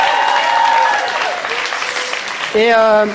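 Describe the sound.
Audience applause for the youth leader, a dense, steady clatter of many hands clapping, with cheering voices and whoops rising over it and a loud vocal shout near the end.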